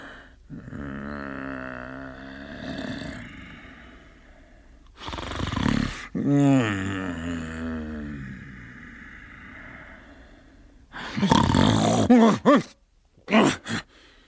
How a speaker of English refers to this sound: Awakening in the middle of a prodigiously tough snore, and sitting up in bed to get his thoughts together, Scrooge had no occasion to be told that the bell was again upon the stroke of one.